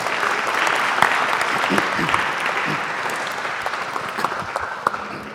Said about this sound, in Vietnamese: Cho bà một tràng pháo tay.